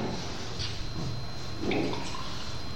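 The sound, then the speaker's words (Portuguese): Water is poured from a bottle for a few seconds, a continuous splashing gurgle with a brief swell near the end as the flow shifts. “Passa água pra mim”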